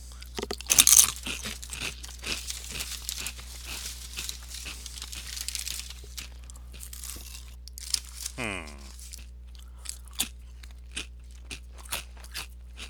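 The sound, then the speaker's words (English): Loud crunching of crispy everything bagel flavored chips, with a sharp crackly bite early on followed by irregular chewing crunches and faint crinkling, continuing steadily without talk. “All right, ready to crunch?”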